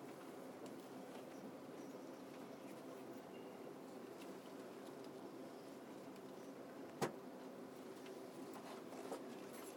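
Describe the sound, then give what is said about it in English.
A steady, dense rumble and hum fills the interior of a moving passenger train bound for London Waterloo, with Putney as the next station, with faint rattles and one sharp click partway through. No one speaks. “This train is for London Waterloo. The next station is Putney.”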